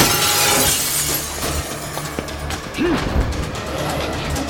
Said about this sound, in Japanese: ガラスを破り外へ逃走。